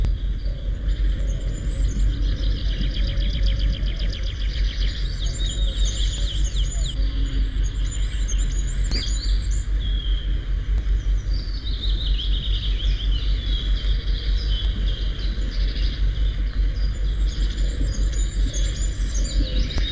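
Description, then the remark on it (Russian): A goldcrest sings from the top of an old spruce, a thin, very high whistling song in repeated short phrases, fairly soft, over a steady low rumble of background noise. “На вершине старой ели поет самая маленькая из наших птиц — королек.”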